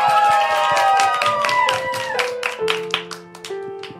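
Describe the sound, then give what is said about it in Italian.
Audience applause for the performers: dense, steady clapping from many hands, fairly loud, over the fading tail of a song being played live, with sustained pitched tones that shift lower toward the end. “a cui tributiamo applausi”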